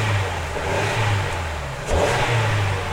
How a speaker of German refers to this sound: Jakob steigt in seinen Wagen und lässt den Motor an.